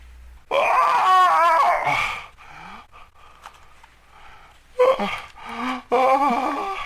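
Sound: scream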